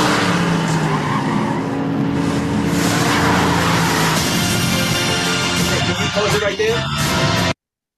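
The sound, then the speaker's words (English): Tesla cars roar past in a movie scene with screeching, skidding tires, a loud, dense burst of engine noise and squealing that runs continuously for several seconds, with muffled voices mixed into the commotion. “So you saw all those Teslas?”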